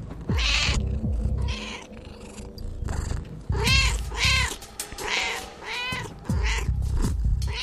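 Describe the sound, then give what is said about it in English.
A cat named Nicodemus meows repeatedly, a string of loud, drawn-out, wavering calls with short pauses between them, some rising into yowls. No one speaks. “Nicodemus, the podcasting cat, wants to do the intro, so I'm going to turn on my handy-dandy cat-to-English application translator and have at it.”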